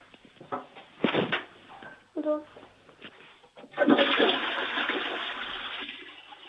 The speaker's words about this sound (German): Das ist ja eine tolle Klospülung.